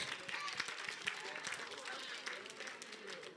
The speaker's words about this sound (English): Clap for the Lord Jesus.